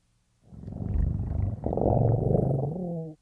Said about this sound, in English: When I move to a new work, you will hear this sound of a mountain lion purring.